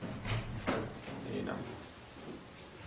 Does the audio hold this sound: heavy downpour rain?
no